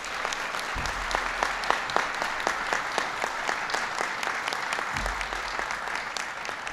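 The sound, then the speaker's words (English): Sustained applause from an audience for Jason Furman, just named principal deputy at the National Economic Council. It is a steady wash of many hands clapping with sharper individual claps standing out, moderately loud and continuous throughout, with no talking. “Give Jason a big round of applause.”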